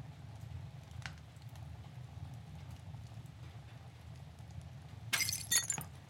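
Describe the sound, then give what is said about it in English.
A picture frame falls from a fireplace mantle and its glass shatters: a sudden crash and a bright burst of clattering shards for about a second, over a steady low rumble with a storm outside and faint crackling from the fireplace. “Something fell from the mantle of the fireplace.”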